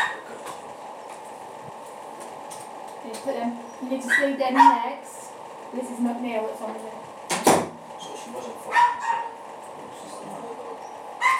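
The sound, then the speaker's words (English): A dog lets out a scattered series of short barks and high, whiny yips over a steady low hum, with muffled voices in the background. “That poor dog's not very happy, is he?”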